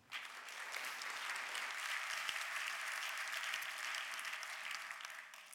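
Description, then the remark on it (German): An auditorium audience applauding a speaker before a talk, a dense wash of clapping that holds an even level for several seconds before easing off at the end. “Jetzt sind wir erstmal sehr gespannt auf Ihren Vortrag. Applaus”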